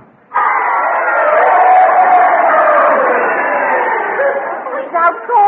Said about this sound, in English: This is the way the crowd wanted it to end. You heard them cheering, didn't you?